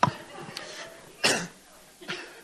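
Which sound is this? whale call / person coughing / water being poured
person coughing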